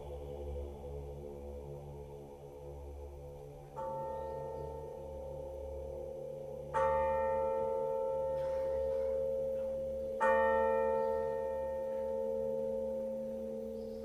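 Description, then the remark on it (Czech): A church bell tolls from a tower, three strikes a few seconds apart, each leaving a long, shimmering resonance that overlaps the next, over a steady low background hum. “i ko srce jedno, gde jad ljuti bije, milosno zvono zacikta sa tornja.”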